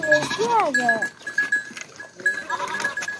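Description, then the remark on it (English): A couple of goats being herded by kids out of a village in Dikundi province bleat loudly, a wavering cry followed by another, then scattered calls and shuffling later on, with faint human voices and a steady high tone underneath; recorded on a cell phone. “It shows kids herding a couple of goats out of a village.”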